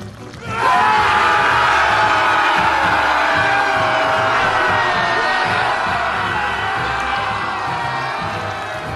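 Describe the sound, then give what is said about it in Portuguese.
A football crowd erupts into loud, sustained cheering and roaring almost at once, holding a dense wall of shouts and whoops that eases slightly toward the end. “A torcida que levanta, derruba.”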